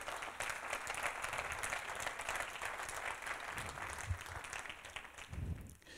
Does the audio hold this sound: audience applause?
yes